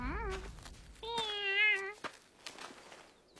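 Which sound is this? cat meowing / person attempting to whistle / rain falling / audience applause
cat meowing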